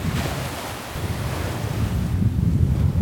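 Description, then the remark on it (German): Steady Atlantic Ocean surf on a wide sandy beach beyond grassy dunes, heard from a distance, rolls in under gusty wind buffeting the microphone, a continuous low roar that swells slightly louder toward the end, with no voices. “Von Weitem hört man schon das Meer.”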